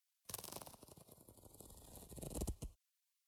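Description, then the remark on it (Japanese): A trouser zipper being pulled down in one continuous stroke of about two and a half seconds, its teeth ratcheting rapidly, fairly loud, growing slightly louder toward the end before stopping abruptly. “まずは、チャックを下ろして”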